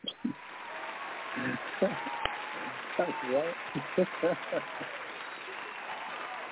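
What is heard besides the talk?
crowd cheering and applause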